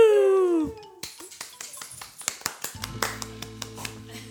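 A ball is bounced again and again, each impact a sharp, quick thud in a loose, uneven rhythm, with a low steady hum coming in partway through.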